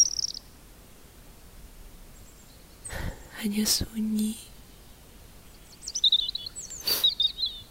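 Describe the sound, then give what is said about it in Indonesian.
Brief, high twittering swiftlet calls echoing off empty buildings come at the start and again in a quick burst near the end, light, while a soft whispered voice speaks in between. “Ciri-ciri burung walet digaungkan gedung-gedung kosong.”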